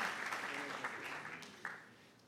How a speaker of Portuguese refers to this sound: Muito obrigado a cada um dos voluntários. Uma salva de palmas. Obrigado.